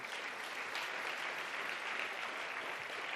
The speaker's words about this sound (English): Let's give ourselves a round of applause. That's awesome.